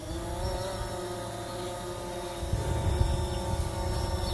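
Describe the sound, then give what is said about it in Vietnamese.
A drone motor hovers about one metre above a herd of Hereford cattle on a farm near Kiowa in south-eastern Victoria, with a steady, buzzing whine and layered tones, holding constant for several seconds and growing slightly louder toward the end, with no voices present. “Tiếng động cơ của chiếc drone chẳng làm cho đàn gia súc hoảng sợ.”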